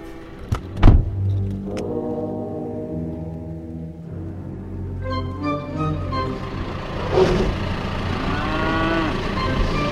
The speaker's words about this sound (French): Alors les voilà vos vaches. Les voilà mes vaches, voilà, elles sont là.